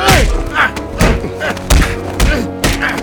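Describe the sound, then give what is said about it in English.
Heavy punches thud into a body about every half second as a father blocks his son's way and rains punches down on him, a steady run of six or seven loud, dull blows, with strained vocal sounds and a low tonal drone underneath. “Oscar tried to move to the door, but Stanley blocked his way, raining down punches on him.”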